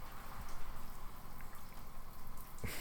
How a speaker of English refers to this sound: I'm just in the shower.